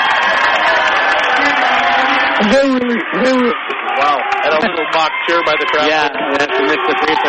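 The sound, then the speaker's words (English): A basketball crowd of Angoon fans lets out a loud mock cheer after a missed free throw, a steady roar of many voices joined by drawn-out, rising and falling hoots that carry on for several seconds. “Wow, and a little mock cheer by the crowd.”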